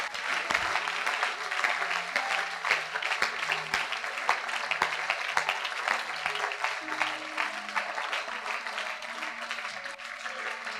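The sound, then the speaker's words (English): A large group claps on command, steadily and continuously, a dense wash of many hands applauding together, sustained at an even, fairly loud level throughout with no pauses. “Clap now.”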